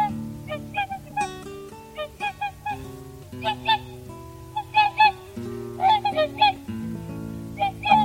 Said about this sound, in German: Das war der Singschwan.